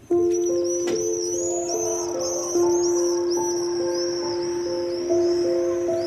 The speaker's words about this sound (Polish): To świszczą właśnie te jeżyki i leci sobie muzyczka